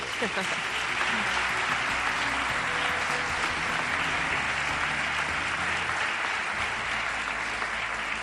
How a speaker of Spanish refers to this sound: dos invitados de categoría, don Francisco Rodríguez, presidente de la Diputación de Granada, y la alcaldesa de la ciudad, Marifran Carazo, para los que pido un aplauso enloquecido.